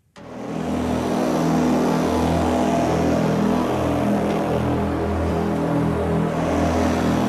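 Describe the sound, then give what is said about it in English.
A dark, ominous film-score drone, the so-called drone of dread heard in movies and TV shows: low, rumbling sustained tones that swell in quickly and hold steady and loud for several seconds, with slow shifts in pitch and no voices. “Have you noticed the drone of dread in movies or TV shows?”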